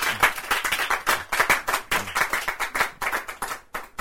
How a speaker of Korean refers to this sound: 박수.